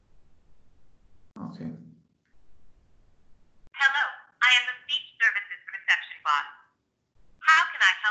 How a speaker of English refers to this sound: So in this second demo, we're going to show how an escalation is handled. My colleague will phone up a bot, and the bot will transfer the number to a human agent.